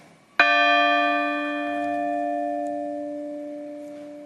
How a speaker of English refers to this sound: A bell rang out for each victim lost. Thousands gathered outside the Basilica of Saints Peter and Paul in Lewiston to listen, pray, and pay their respects.